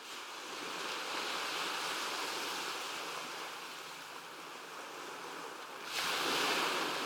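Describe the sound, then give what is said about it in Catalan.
Steady, rushing surf fills the scene, a broad hiss of sea waves washing ashore, swelling into a louder, brighter surge near the end. No voices, just continuous ocean wash. “La mar arriba a vora el llit, o ho pense.”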